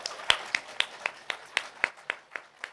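Applause comes as a steady, evenly paced run of about eleven sharp claps, crisp and moderately loud, with no voices over them.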